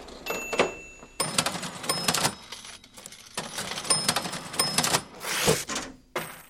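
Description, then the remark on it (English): An old mechanical cash register clatters through a series of key presses and ratcheting clunks, ending in bright metallic rings, fairly loud with no voices. “We love the machines. There's a certain thing about them. They ring. They make that noise.”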